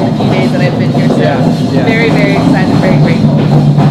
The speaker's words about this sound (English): Train go through. Hang on.